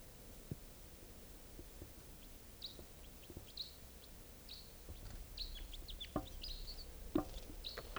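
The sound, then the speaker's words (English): Wild birds perched in a tall Douglas fir above a net area call in a scatter of short, high chirps and whistled notes, coming in quick irregular bursts over a steady low background rumble, with a few sharper calls standing out toward the end. “Wild birds here.”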